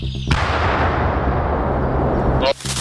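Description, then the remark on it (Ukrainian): A single loud shot with a sharp crack, followed by a long rolling boom and rumble that fills the next two seconds before cutting off abruptly, from a Ukrainian Armed Forces mortar crew firing on massed Russian infantry in the Kharkiv direction. “Постріл.”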